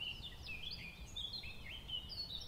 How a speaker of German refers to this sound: Das ist wieder die Mönchsgrasmücke.